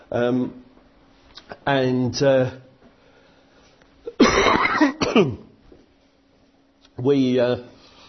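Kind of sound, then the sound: human body sound, coughing into a microphone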